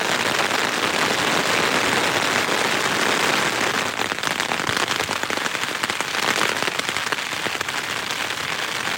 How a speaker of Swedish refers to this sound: Det är tisdag morgon och vi skulle ju komma in i ett område med skurar. Och skurarna är här kan man säga.